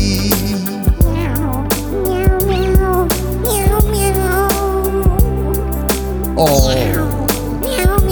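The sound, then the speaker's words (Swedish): A cat meows a few times, the drawn-out calls rising and falling over a steady musical backing with light percussive taps. No one speaks. “Katta leke, katta klore, katta vill in.”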